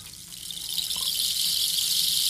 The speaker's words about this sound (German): Der Reis soll vom einen zum anderen Rohrende gleiten und dabei das typische Regengeräusch machen. Und das klingt dann wohl so.